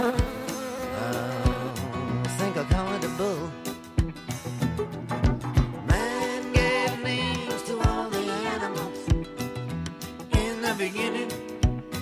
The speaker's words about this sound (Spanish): Y esa otra cosa es que el técnico tenía que esquivar avispas en la sala de prensa del pabellón del Soto, del pabellón del Andrés Torrejón del Soto, porque había una nube de avispas que poblaban esa sala de prensa.